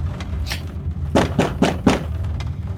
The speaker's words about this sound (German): Ich klopfe an die Tür.